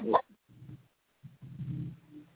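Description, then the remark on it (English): A dog gives one sharp, loud bark, then follows with a few lower, softer grumbling whimpers in short bursts. No one speaks. “No, I'm not the one barking.”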